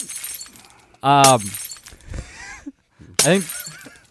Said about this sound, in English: So, you know, I think quite a few of us were looking through Coke bottles at the Gophers, and our glass bottles got shattered to all hell.